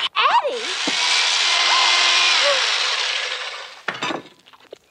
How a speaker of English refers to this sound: Would you have, you know, Frankenfurter sitting around the kitchen table, like silencing people with his electric knife, doing that whole like evil daddy shtick that we saw in Texas Chainsaw Massacre.